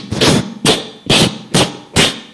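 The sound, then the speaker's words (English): Heavy footsteps of an enormous, heavily muscled man well over 6 feet tall trample in a steady rhythm in a forest with fields at Bodhanath, five loud crunching thuds about half a second apart, each a broad, rough burst with short gaps of quiet between them and no voices. “It was like this loud footsteps that were really trampling hard.”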